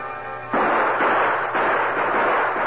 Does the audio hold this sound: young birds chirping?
no